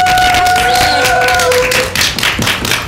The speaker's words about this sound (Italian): Facciamo un applauso.